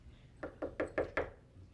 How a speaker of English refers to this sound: Does the person at the door knock forever? They eventually go away, don't they?